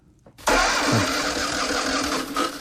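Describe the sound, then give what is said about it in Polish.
A car engine cranks briefly and roars to life after a moment of quiet, then keeps running loudly and steadily, with no voices. It is a winter morning after hard frost, and the car is being jump-started with cables because its battery died after three days unused. “Zimowy poranek i chwila porannej niepewności.”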